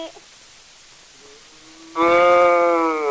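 A cow lets out a single loud, drawn-out moo after a quiet moment, the call holding steady and sliding slightly lower as it trails off, with no one speaking.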